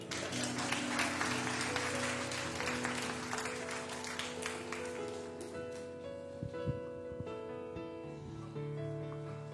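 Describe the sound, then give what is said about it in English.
A crowd claps and applauds for a dad in a dense, steady burst that thins out after about six seconds, while sustained tones hum underneath and carry on once the clapping fades. “Yeah, let's clap for my dad.”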